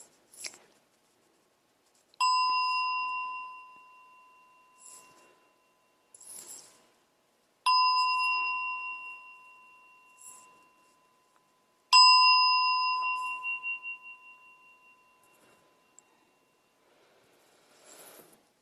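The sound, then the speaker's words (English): A meditation bell is struck three times to start a meditation session, each clear metallic tone ringing out and slowly fading before the next, with quiet pauses and faint small noises between strikes. “All right, so in my tradition, I do the bells 3 times to start and 1 to end, and I'll lead a little bit of meditation.”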